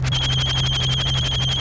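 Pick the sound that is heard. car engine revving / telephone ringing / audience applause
telephone ringing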